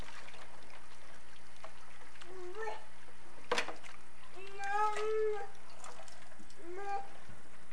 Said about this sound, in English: We'll put your dishes on this towel. Mommy's washing your dishes. See? Gotta get the dirty dishes all clean.